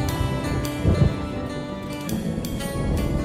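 Deep, rolling thunder rumbles low and steady throughout, swelling briefly near the start, with a soft wash of rain-like hiss and faint sustained tones over it, the thunder heard in the background of a song.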